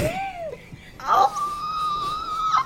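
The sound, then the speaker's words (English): A loud vocal screech: a short falling wail breaks off, then a piercing high-pitched shriek holds steady for about a second and a half before cutting out. No words are spoken. “Sorry for that screech.”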